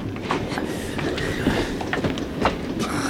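A train rolls steadily along the rails, a continuous rumbling with faint rhythmic clatter and occasional higher metallic squeaks, with no talking.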